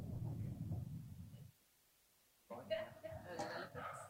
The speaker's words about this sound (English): Is that a comment on my sermon? The thunder. Wait for the bolt of lightning. Oh, that comes first, doesn't it?